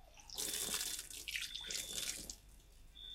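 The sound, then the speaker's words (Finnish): Water is poured over hands, splashing and pouring in a broken, uneven stream for a few seconds, then trickles off. No one speaks. “Saanko kaataa vettä?”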